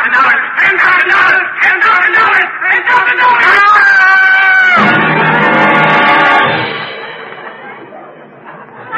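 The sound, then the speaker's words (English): A loud, piercing scream rings out over a clamor of agitated voices and shouting, followed by a burst of commotion that gradually fades. “Did that scream frighten you, Brutus?”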